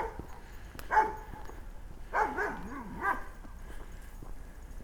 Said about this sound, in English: Like the barking of that dog, which proclaims that it's going to save the world